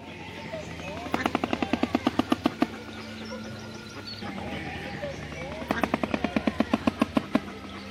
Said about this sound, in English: A shoebill rapidly claps together the top and bottom of its large bill to make a special sound called bill clattering. It is just another special feature of their surprisingly large bills.